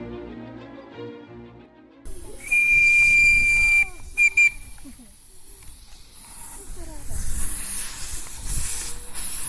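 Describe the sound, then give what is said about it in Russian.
An approaching miniature steam locomotive on a garden railway in the village of Skalskum gives one long shrill whistle blast, then two quick short toots, over loud hissing steam and rumbling, in cool spring air. A voice is briefly heard at the start. “Прохладный весенний воздух пронизывает сигнальный гудок приближающегося паровоза.”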